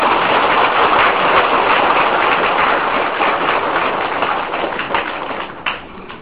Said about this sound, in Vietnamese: Xin quý học viên cho một tràng vỗ tay này.